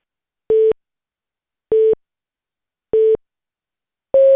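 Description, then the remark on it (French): Four short electronic beeps spaced about a second apart, the first three at the same mid pitch and the fourth slightly higher, ringing out clearly over silence as the time signal of the French talking clock (horloge parlante), which gives the time at the fourth beep; the service is still active in France. “Cette fois, vous venez d'entendre la version française de l'horloge parlante qui, contrairement à sa cousine australienne, vous donne l'heure non pas après 3, mais 4 tops.”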